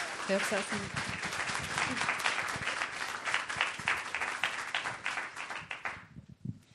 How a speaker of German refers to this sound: Trotz allem, es freut mich sehr, dass wir heute die erste Bundesrätin von der Schweiz, Elisabeth Kopp, bei uns im Stadttag begrüßen dürfen. Ich bitte um einen herzlichen Applaus. Sie haben ihn schon mal bekommen, aber ich glaube zweimal.